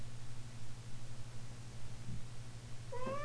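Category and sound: animal, cat meowing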